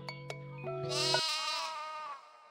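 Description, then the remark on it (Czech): A single drawn-out sheep bleat, wavering and nasal, rising over a brief steady musical tone at the start, then fading out, fairly loud. “A ako bude i dalje bio neposlušan, nabavit će mu, rešila je Ana, ovcu.”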